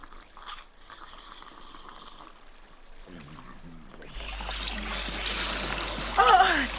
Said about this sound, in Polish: Najpierw trzeba wypróbować trąbę. Mhm. I wtedy się okaże. Ale jak? Nabierz w trąbę wody i zrób mi prysznic.